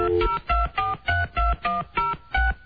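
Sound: telephone keypad dialing tones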